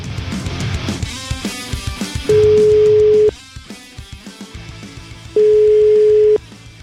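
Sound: telephone ringing tone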